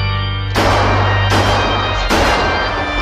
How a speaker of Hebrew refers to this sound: אנחנו שלחנו אותך לספור כמה יריות יש שם ומה כל כך איקוני בסצנה הזאת?